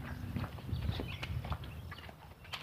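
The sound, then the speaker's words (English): Steady footsteps of a man walking up from behind, a rhythmic series of soft low thuds and scuffs at moderate volume, with a few sharper clicks and no talking. “Guy coming up behind me. I can hear him walking and panting.”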